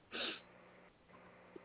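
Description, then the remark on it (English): A single short sneeze bursts out near the start, a sharp breathy blast that fades quickly into quiet room tone with faint background murmur. “God bless you, Apostle.”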